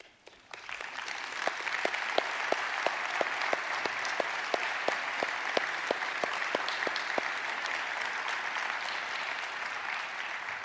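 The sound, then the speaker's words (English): A church audience applauds its volunteers, who stand, breaking into sustained, steady applause that swells quickly and holds strong for about ten seconds, with some rhythmic clapping standing out in the first several seconds. “In fact, if you volunteered for anything in 2025 in any capacity, would you just stand so that we could applaud you?”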